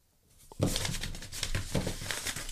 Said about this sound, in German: Ja, ja, ich habe so viele Zettel. Wie unterm Weihnachtsbaum. Es raschelt wie, als wenn man gerade die Weihnachtsgeschenke einpackt.